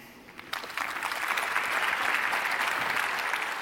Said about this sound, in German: Aber wie würde denn hier so in Leipzig bei, ich weiß nicht wie viel tausend Leuten das hier bestimmt alle sind, die ich nicht sehen kann, wie klingt denn bei euch so ein 5-Punkte-Applaus für so einen mittelmäßigen Text, der war so, okay.